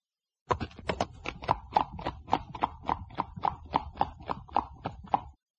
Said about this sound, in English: Look at this horse. Oh, what a fine horse.